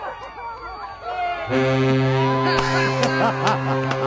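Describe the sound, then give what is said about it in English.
After a moment of murmuring voices, a freighter on a river near Cleveland, about 60 yards offshore, sounds a deep, steady horn blast as a thank-you, holding one loud, droning low pitch to the end, with people still chattering faintly beneath it. “The boat says thank you. Listen.”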